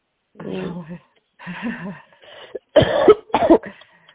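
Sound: coughing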